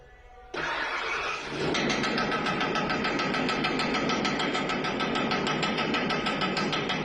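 A car engine cranks and catches after repairs, then runs loudly while a man knocks on the bumper with a wrench to fake a rattling noise; a fast, steady metallic knock pulses over the idle throughout.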